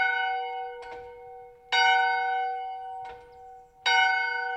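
The old bell of the Little Cataloochee Baptist Church, built in 1889, rings out in slow, steady strokes roughly every two seconds, each clang leaving a long metallic hum that lingers into the next. Fairly loud, with no voices.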